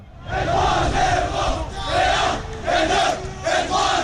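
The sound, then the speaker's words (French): A large crowd of Paris Saint-Germain football fans on the Champs-Élysées in Paris chants loudly in rhythmic, repeated bursts, with car horns honking faintly underneath the roar, celebrating the club reaching its first Champions League final. “Grosse ambiance aussi sur les Champs-Élysées. Vous entendez ces klaxons et puis ça.”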